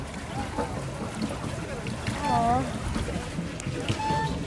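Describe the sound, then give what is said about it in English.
A small boat rented for 30 minutes out on open water at a park, with a steady low rumble and wind-like wash throughout, brief faint whistling tones rising above, and indistinct voices in the background. “We got this boat for 30 minutes.”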